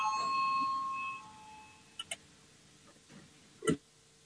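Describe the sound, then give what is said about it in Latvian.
A voting bell rings out in a single sustained, steady tone at the start, fading away after about a second, followed by a few faint clicks and a sharper knock. It is rung to call a vote on proposal number 14, Justice Minister Bordāns's proposal. “Lūdzu, zvanu, balsosim par 14.”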